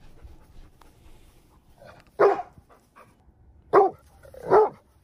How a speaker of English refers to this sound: Yeah, and then finally we have the bark of the Rhodesian Ridgeback. So it's pretty big and powerful, I will say. Makes sense. Big dog.